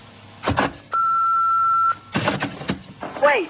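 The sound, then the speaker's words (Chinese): A telephone answering machine in Hong Kong picks up a late-night call with mechanical clicks, then one steady, fairly loud electronic beep about a second long, followed by more clicking and a voice starting to talk. “咁夜仲有边个打电话嚟呢？我在香港都冇乜朋友噶啦，啊，由得个电话录音机应付佢先。”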